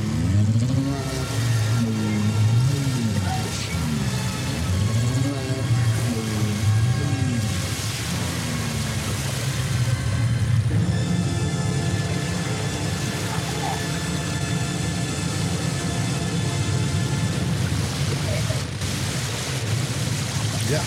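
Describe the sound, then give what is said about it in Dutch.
A produced effect of the Radio Noordzee transmitter on the Mebo 2 sinking into the waves, marking the station's silencing on 1 September 1974: warbling, swooping electronic tones rise and fall over a loud, steady rush like ocean waves, then fade into the continuous wash of noise. “Daar verdwijnt de zender in de golven.”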